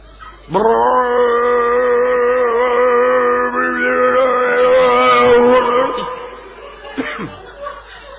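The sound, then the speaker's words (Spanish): A person vocally imitates the roaring engine of a leaf blower used by workers to blow leaves off the ground, with a loud, steady droning hum held for several seconds, then a brief rising and falling whine before it fades. “Traen unos aparatos que escupen aire. Ah, sí, la sopladora. Sí, espérese. Es el ruido de 10 motos.”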